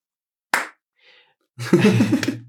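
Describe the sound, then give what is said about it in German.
A single sharp slap rings out, then after a pause a short, dense burst of applause for a magician known for the Phantasma Slam lasts about a second, mixed with voices and fading quickly. “Ein Applaus.”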